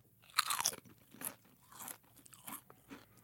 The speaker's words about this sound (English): I have two different potato chips in front of me right now, chip A and chip B. Okay. And I want you to tell me, based solely on the sound of the crunch, which chip is fresher, crisper, better.